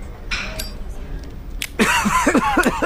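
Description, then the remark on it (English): A man in a movie scene coughs repeatedly in rough, strained bursts, loud, after a quieter stretch with a few faint noises. “And he's just coughing the rest of the hate the scene so much.”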